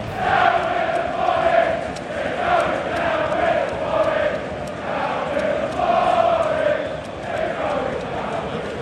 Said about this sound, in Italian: Retrocederete con il Forest, cantavano i tifosi del Wolverhampton sarcastici a Stamford Bridge mentre la loro squadra dominava il match, ennesima umiliazione stagionale per il Chelsea.